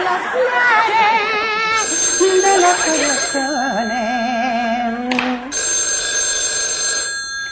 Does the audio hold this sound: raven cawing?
no